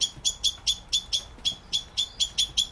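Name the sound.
blackbird chirping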